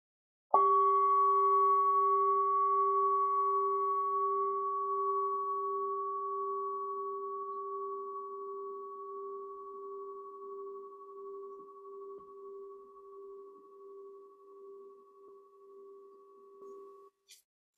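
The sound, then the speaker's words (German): A singing bowl is struck once as a gong during a meditation and rings on alone for about sixteen seconds, its steady layered hum slowly fading with a gentle wavering pulse before stopping abruptly. “Und dann hören wir den Gong der Klangschale.”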